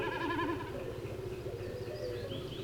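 A common snipe drums high in a blue sky, the sound made by its vibrating tail feathers as it dives: a quavering, bleating hum like a lamb, loudest in the first second before fading, over a steady low background drone with faint high chirps later.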